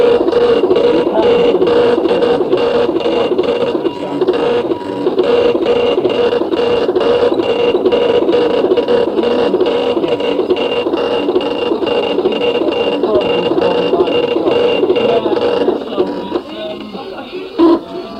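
An Everest-D braille printer with an integral single sheet feeder loudly embosses pages with a rapid, continuous mechanical hammering and rattling, running steadily for most of the time before slowing and quieting near the end.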